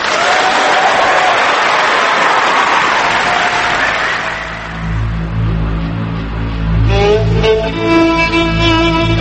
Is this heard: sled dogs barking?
no